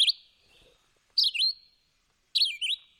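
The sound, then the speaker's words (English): A recording of a songbird, a species that sings more phrases than any other bird in North America: three short, bright whistled phrases in a steady repeating pattern, each a quick rising and falling warble, clear with brief silences between. “They sing more phrases than any other bird in North America.”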